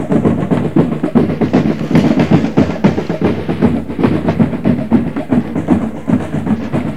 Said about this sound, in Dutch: Er is ook een soort drumband aangekomen. Allemaal Afrikaanse drumsband. Nou, dat horen jullie zeker wel.